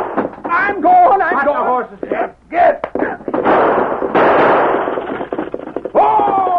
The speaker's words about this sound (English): Boggs' horses, frightened by slaps and gunshots, raced away from the base of the mountain and continued over a small rise into a valley.